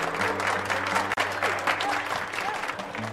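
Applause from a group of people after an announcement of officially adopting Russell: dense, continuous clapping that holds steady for the full few seconds, with a faint low hum running underneath.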